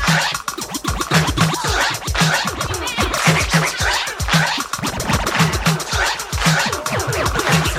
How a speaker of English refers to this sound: Now here's a scratch beat.